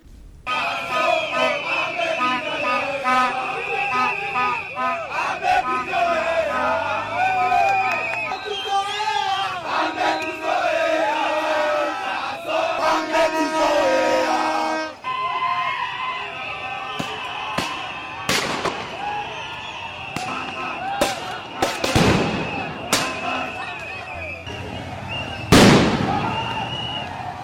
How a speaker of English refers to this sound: Those are the sounds of protesters running away from the crowd after the police started tear gassing and shooting them with rubber bullets.